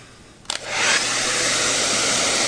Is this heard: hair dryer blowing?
yes